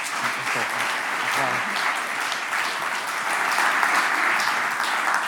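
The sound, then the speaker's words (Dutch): A room full of people claps steadily and continuously, a dense wash of applause that stays loud throughout, with a few faint voices briefly audible underneath at the start. “applaus”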